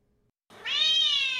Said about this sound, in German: Das ist meine Katze Miezi. Sie ist 4 Jahre alt.